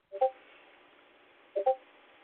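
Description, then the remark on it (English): A Discord notification beeping: two quick mid-pitched double blips, the second pair about a second and a half after the first, over a faint steady hiss with no talking. “Yeah, it's a Discord beeping.”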